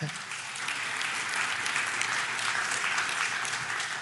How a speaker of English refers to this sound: I don't know that I've ever had anybody clap after a message on giving. You're so generous.